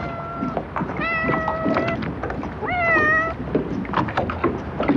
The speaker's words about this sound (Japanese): ペルシャのようなモフモフの野良猫が早速お出迎えです。